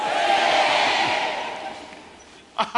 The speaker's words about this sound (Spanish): Somebody ought to shout amen. Alguien debía de gritar amén.